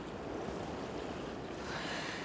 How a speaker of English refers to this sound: Oh, how much nicer is it when there's so few people left? You can just listen to the water, feel the sunset leaving, and just, oh.